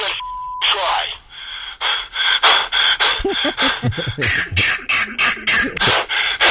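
Heavy, rhythmic breathing by a man on a recorded phone call, heard over a tinny telephone line: a quick run of loud, ragged inhales and exhales that speeds into short panting bursts near the end, after a brief tone at the start.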